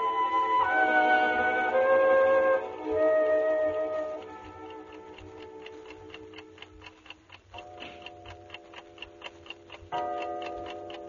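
A clock strikes two o'clock with ringing, resonant chimes over a steady, brisk tick-tock that carries on between the strokes. It is clear, with no voices.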